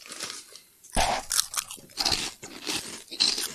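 Loud crunching of a crispy snack from a freshly opened bag, a sharp first bite followed by several irregular crackling chews over a few seconds, with no talking.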